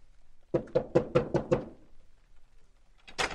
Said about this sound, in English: Knock on the door, Dave. We go in.